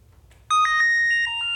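A phone ringtone starts abruptly and keeps ringing, a bright, loud electronic melody of repeating tonal notes with a faint low hum underneath and no talking.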